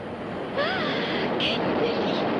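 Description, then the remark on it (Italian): A steady, broad rushing roar swells up suddenly as air is forced up through a subway grate by a passing train, with faint squealing tones and a brief hiss midway. “Senti il vento della sotterranea!”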